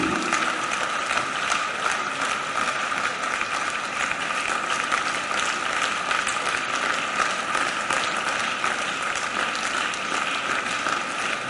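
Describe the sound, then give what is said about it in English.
Sustained applause from an audience, a dense, steady wash of many hands clapping at even loudness throughout, with no voices standing out above it. “Those of you who are clapping, keep clapping.”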